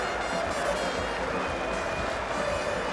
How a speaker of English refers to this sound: all on their feet saluting what has been a quite superb knock from young Zach Crawley. See Ben Stokes and the England dressing room standing as one to applaud the Kent opening batter. He has played handsomely in this innings. Second Test match 100.